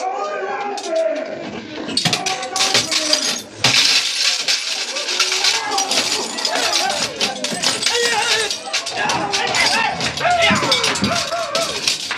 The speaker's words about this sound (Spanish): El ataque se ha iniciado. Los vidrios de la joyería saltan hechos pedazos bajo los golpes de las temibles espadas guerreras.